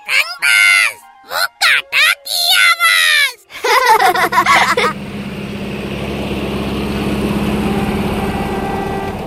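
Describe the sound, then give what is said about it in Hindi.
A child's high, wailing voice comes in bursts at first, then the engine of a new tractor starts up and keeps running with a steady, low chugging rumble, fairly loud. “नए ट्रैक्टर पे घूमने निकले हैं, है ना?”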